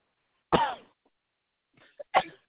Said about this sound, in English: I have a cough that I get every it's not contagious, it's allergy. I get it from November to February every single year.